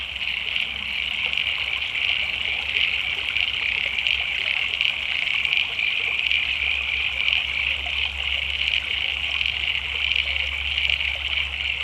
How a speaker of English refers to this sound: It always amazes me how quick that dry creek bed can leap into life.